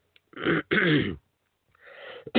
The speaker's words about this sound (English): Excuse me, folks. I don't mean to be coughing on the air because that's bad policy for me.